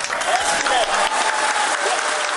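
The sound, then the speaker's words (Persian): A crowd at India's space research centre claps steadily and loudly as a staff member announces the spacecraft's landing on the Moon, a dense wash of many hands with no pauses, with faint voices mixed in beneath the applause. “یک تن از کارمندان مرکز فضانوردی با هیجان و کف زدن مردم نشست را اعلان نموده و گفت که هندوستان در مهتاب فرود آمد.”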